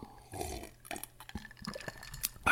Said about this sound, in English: Hold on, I got to take a drink of water.